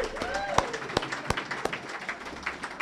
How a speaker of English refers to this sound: Now, how about another round of applause?